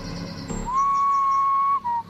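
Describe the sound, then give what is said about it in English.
A single sustained whistle in the woods holds one steady pitch for about a second, then trails off in a short final blip, clear against a quiet, faintly rustling background. “A single whistle sounded to the left of me.”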